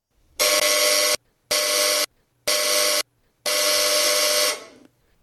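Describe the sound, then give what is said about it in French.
A loud, harsh electric buzzer sounds in four bursts: three short rings of under a second each, then a longer one of about a second that fades out. It has a steady rasping tone, with no voices. “Ah, cette sonnerie me rendra folle.”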